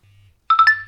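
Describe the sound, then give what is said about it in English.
A quick run of three electronic beeps from a device restarting after a software update has been installed, the last beep stretching into a steady held tone, loud after a near-silent moment with only a faint low hum. “The documentation did say there would be a number of beeps and messages and so on.”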